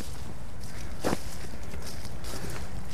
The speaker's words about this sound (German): Man hört noch immer das Laub rascheln, aber jetzt ist schon ziemlich frostiger Winter.